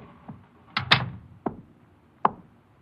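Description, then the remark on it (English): An office door is pushed closed with a solid thud and rattle, followed by a couple of sharper clicks from the latch, spaced out over a few quiet seconds. “Shut the door.”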